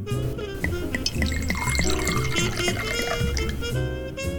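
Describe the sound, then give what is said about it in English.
Red wine, a 2006 La Crema Pinot Noir from the Sonoma Coast in California, pours steadily into a glass for a taste, a gurgling, splashing stream with ringing glassy tones running for a few seconds without pause. “That too much for a taste? In traditional wine service, after you cork it, you pour it like that much, and then you have someone taste it first, and then they say, okay, new taste.”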